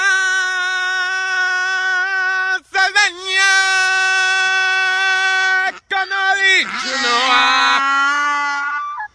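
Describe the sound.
A man in South Carolina sings long, held notes with brief breaks to his donkey, and near the end the donkey's harsh, raspy bray swoops down in pitch and joins the singing.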